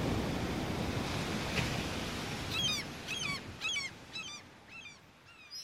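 Steady water sloshing and lapping against the damaged hull of a sailboat in the morning after a storm, continuous, with a series of bird calls chirping in repeated bursts over it partway through.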